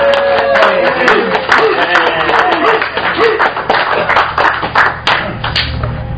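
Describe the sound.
A crowd applauds steadily for several seconds, a dense, even patter of many hands clapping, with faint murmuring voices mixed in beneath the claps.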